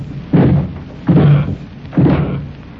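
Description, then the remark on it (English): Three heavy, booming thuds as someone hits a solid door hard, trying to bust it in. The blows are spaced about a second apart, each a loud low impact that rattles briefly before fading. “I just ain't got strength enough to break it in.”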